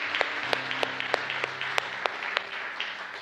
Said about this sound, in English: Can we give a round of applause to anyone that just walked through that with me for the first time? Yeah, that's awesome.